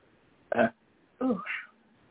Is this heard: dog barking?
no